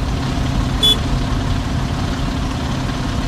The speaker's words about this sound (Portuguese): Eita, aí, rapaz, muito engarrafamento realmente nessa hora.